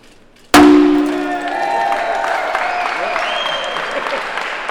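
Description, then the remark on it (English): A champagne bottle smashes against a brand-new bright blue metal turbine in the Blue Lake powerhouse in Sitka during a ceremony, in one sudden, loud crack, followed by a lingering metallic ring that slowly fades as a crowd breaks into applause. “smashing a bottle of champagne against one of the brand new bright blue turbines in Sitka's Blue Lake powerhouse.”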